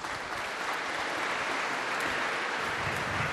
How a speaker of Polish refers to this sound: Państwo klaszczą, ale trzeba powiedzieć, kto to jest.